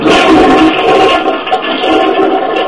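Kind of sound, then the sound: household object, toilet flushing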